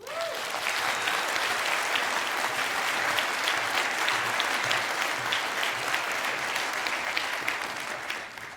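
A large audience at a talk at the Congress claps steadily for several seconds to welcome an IT security speaker, a dense wash of many hands, loud and sustained without pause, with a brief tone or whistle near the start.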